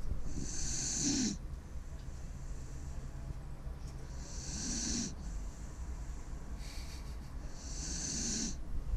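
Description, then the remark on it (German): A dog snores three times in a slow, steady rhythm, each rasping breath a few seconds apart, moderately loud, with no one talking. “Der Hund schnarcht schon wieder.”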